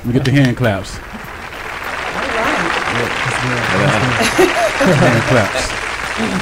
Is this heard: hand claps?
yes